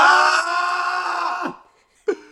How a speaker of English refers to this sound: Basically, how our house is designed is you're basically a wall between me right now. Can you both give out like a yell so that we can see if I can hear it? Ready? 3, 2, 1.